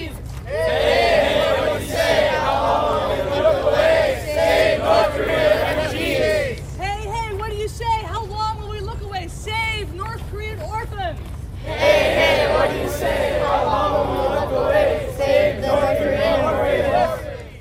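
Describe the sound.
A crowd of students chants slogans in unison during a street march after a prayer rally at Lafayette Park by the White House, calling to save North Koreans. Loud rhythmic shouted phrases with strong harmonic bands, broken midway by a few seconds of a single voice calling out before the group echoes back.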